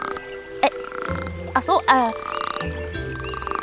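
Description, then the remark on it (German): In a radio play, a voice imitates a frog's croaking with a few short, throaty, burp-like croaks, fairly loud, over a low steady hum with no words spoken. “Hör doch mal auf zu quaken.”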